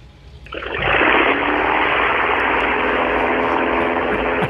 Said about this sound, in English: Let's hear the sounds of the engine for a moment while we take off.